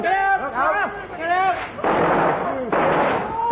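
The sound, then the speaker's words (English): Excited voices shout and whoop, then two sharp bangs of igniting fuse powder and rockets burst out a second apart, each followed by a loud hissing, crackling roar that carries on under the voices. “Look out, sir. I think it's going to go up. Everyone down on the pipe.”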